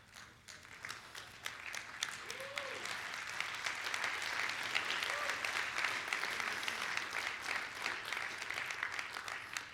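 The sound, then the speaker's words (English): A crowd applauds steadily for about ten seconds, a dense wash of many hands clapping at even loudness, with a few faint voices and a brief whoop rising briefly through the noise. “Now you know I'm going to bust you for that kind of clapping.”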